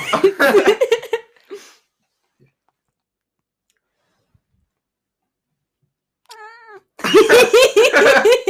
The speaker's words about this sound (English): That was a cry for help. That was. So that is my cat.